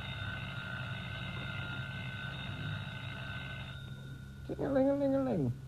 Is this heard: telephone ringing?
yes